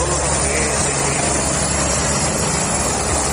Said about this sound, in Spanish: Escuchas a uno de los helicópteros de los servicios de incendios forestales que se encontraba cargando agua en la piscina municipal del municipio.